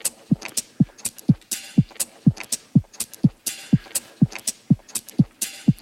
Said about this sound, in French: Entend le stylo bic. Qu'est-ce qu'on entend là-dedans? On reconnaît le tac, tac. Le clic, le 4 couleurs, le petit 4 couleurs, voilà.